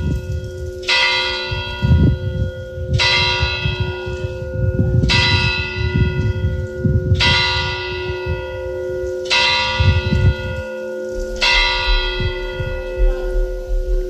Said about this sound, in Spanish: Medianoche. Tañe la campana de la iglesia de la Res, a orillas del río Aurín, en Huesca.